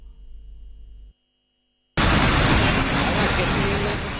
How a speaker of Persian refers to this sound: در خیابان‌های دهلی کنار این سه‌چرخه‌های مسافربر ارزان، مجموعه بسیار زیادی از خودروهای ساخت داخل و خارجی حرکت می‌کنند. حتی از گران‌ترین و کمیاب‌ترین خودروهای جهان هم در این خیابان‌ها دیده می‌شوند.